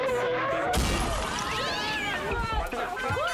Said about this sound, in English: Holy crap! The lucky taco truck just crashed through the flipping wall.